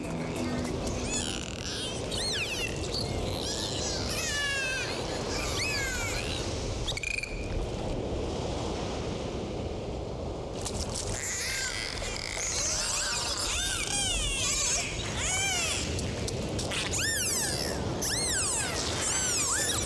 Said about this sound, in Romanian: Prieteni, țin să vă informez că sunetele emise de delfini sunt considerate terapeutice pentru oameni. Din acest motiv, vă invit ca în următoarele 30 de secunde să ascultăm ….